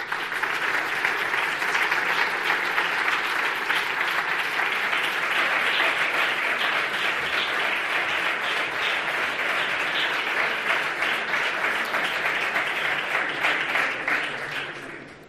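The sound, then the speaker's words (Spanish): A large audience at a University of Jaén awards ceremony applauds steadily as the sports award is presented to a boxer, a dense, sustained wash of many hands clapping at even loudness for about fifteen seconds before tapering off at the end. “Un fuerte aplauso.”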